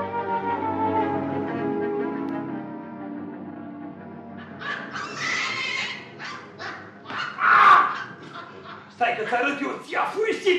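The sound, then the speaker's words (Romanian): Monkeys in Zanzibar chatter and shriek in quick, high-pitched bursts, starting with a drawn-out whining cry and breaking into rapid, excited yips, fairly loud. “Nemușele astea nesuferite. Mi-a aruncat una cu o nuncă de cocos în cap.”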